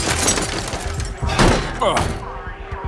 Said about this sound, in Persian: شیشه شکنه بابا.